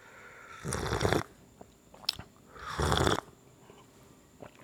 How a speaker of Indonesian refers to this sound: belum ngopinya belum sempat diseruput nih bro. Tak seruput dulu lah ya.